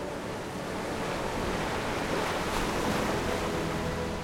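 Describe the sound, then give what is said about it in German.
Steady ocean waves wash and rumble continuously under a sailing ship setting out across the sea, with a broad hiss of surf and some wind noise; no voices. “Mit einem Knarren richtet sich der Mast aus und kurz darauf beginnt das Schiff seine Reise über das Meer.”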